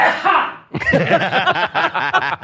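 A single loud, breathy sneeze or cough bursts out and trails off, then a short pause before a stretch of rhythmic, bubbling laughter fills the rest.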